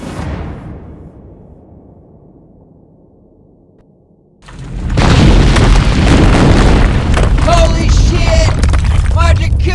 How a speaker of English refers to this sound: Sad fact, it was actually the malfunctioning jacuzzi that caused the explosion.